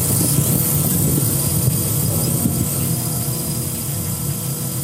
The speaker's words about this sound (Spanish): la violencia suena a drones, como los millones que se están usando en la invasión de Ucrania